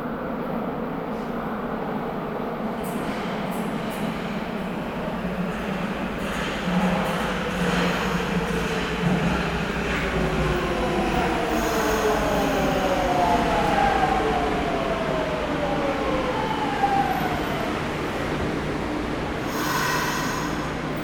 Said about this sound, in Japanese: 金山方面大曽根行きが参ります。黄色い線までお下がりください。